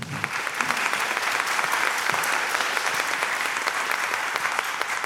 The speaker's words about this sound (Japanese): それから、シルバースポンサーの皆さん合わせて14社あのご協力いただいたんで、感謝の意味を込めまして拍手していただけますか。